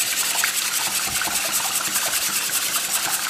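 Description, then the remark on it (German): A whisk beats egg and milk in a bowl, a steady swishing and scraping with a fast, even rhythm and a wet, liquid edge throughout, with no voices. “Gut, als nächster kommt der Schneebesen zum Einsatz und das griffige Mehl. Ich verschlage einmal das Ei mit der Milch.”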